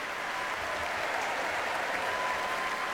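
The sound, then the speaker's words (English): Sustained applause from a large audience in a concert hall for the orchestra leader Andrew Haver, at a John Wilson concert celebrating a singer's 100th birthday. The clapping is a dense, steady wash that holds at an even, moderately loud level throughout, with no voices standing out. “Andrew Haver on the leader there getting a huge round of applause.”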